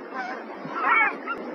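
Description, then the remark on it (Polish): Harsh, nasal calls of Caspian gulls run together in a steady stretch, rising into a louder, more strained cry near the middle before easing off. Fairly clear, with no talking. “Niejednokrotnie festiwal potrafi zaskoczyć swoich widzów i nie inaczej zachowują się mewy białogłowe.”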